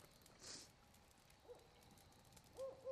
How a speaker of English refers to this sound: Barn owl? I think it's a spotted owl. Yeah. Yeah, you're probably right.